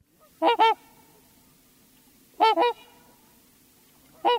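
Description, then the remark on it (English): A trumpeter swan, North America's largest waterfowl, calls in resonant, horn-like double honks, repeated three times about two seconds apart, clear against a quiet background with no one speaking. “It means that North America's largest waterfowl is nearby. It's a trumpeter swan.”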